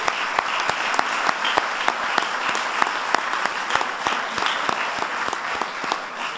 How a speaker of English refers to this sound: That is worth an applause.